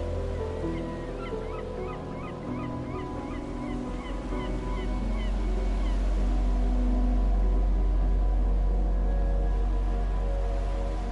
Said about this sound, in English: You hear the water and the movement, the song of the seabirds, the air filled with the weight of salt and feather and coral